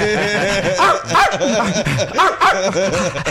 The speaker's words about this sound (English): Sorry. That's a really damn good dog.